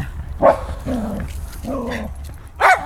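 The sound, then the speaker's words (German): A dog barks four times in an uneven rhythm, short sharp yaps alternating with two longer, drawn-out, whiny barks, fairly loud over a low steady rumble. “Ich weiß gar nicht, von wem der Hund das hat.”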